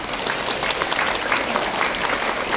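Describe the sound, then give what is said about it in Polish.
Steady applause from a crowd at a pilgrimage, welcoming Magda Buczek, founder of children's rosary circles, and her mother: a dense continuous patter of many hands clapping at an even loudness throughout, with no voices rising above it. “Brawa dla nich!”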